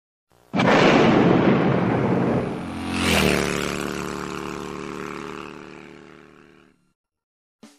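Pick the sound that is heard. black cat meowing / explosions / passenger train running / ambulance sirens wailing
explosions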